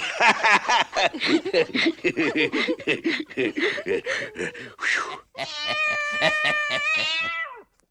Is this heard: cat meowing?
yes